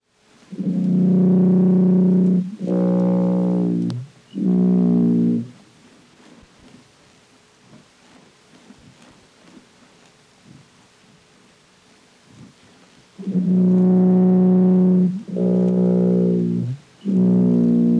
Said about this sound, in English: The following sounds we recorded from a blue whale off the coast of Chile. This is also presented at 8 times normal speed.